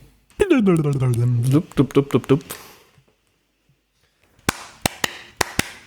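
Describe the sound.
A drawn-out voice, then after a short pause about five sharp, loud hand claps in an uneven quick burst, each a crisp snap with nothing underneath.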